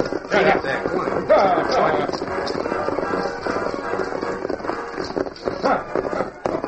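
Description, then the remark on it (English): Many horses' hooves gallop in a dense, continuous drumming, loud, with the pounding rhythm rolling steadily throughout, as riders ride away herding stolen horses. “Then, while the rest of the gang waited, Howling Bird and Whitey rode away, herding the horses they had stolen from the colonists.”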